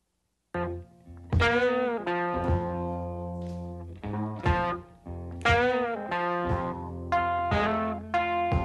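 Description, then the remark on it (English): An old electric blues recording from 1951 plays: a gritty, distorted electric guitar rings out in loud, sustained notes with sharp attacks, repeating a slow phrase with no singing in this stretch. “But you'll hear, I mean, from here, this is where this is essentially the foundation of modern blues.”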